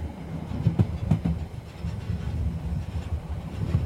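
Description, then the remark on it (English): A train rumbles steadily along railway tracks, its low, continuous roll broken by a few sharp wheel clacks over rail joints, with no voices; a clip from the guided sleep story Night Train to the Coast by The Honest Guys. “It is called Guided Sleep Story, Night Train to the Coast by The Honest Guys.”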